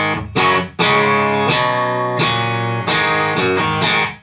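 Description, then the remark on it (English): A bright, punchy electric guitar in a country style plays a short phrase of crisp, sharply picked notes and chords, loud, with no voices. “Very usable, very punchy country type tones if you get up there.”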